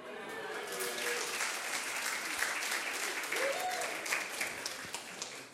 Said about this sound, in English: There's always the biggest cheer when I talk about her.